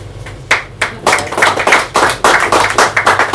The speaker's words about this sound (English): Sorry, it's just like, I noticed this happens a lot. Hey, you don't have to clap after every poem. No, I know. It's fine. No, it's fine. Like, some people don't know where to clap, so you just wait till the end.